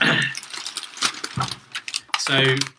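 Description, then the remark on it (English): Food packaging being opened: a busy run of crinkly, rattling rustles and sharp little clicks, with brief bursts of a voice at the start and end. “Hang on, there's going to be some noises now while I open up my food.”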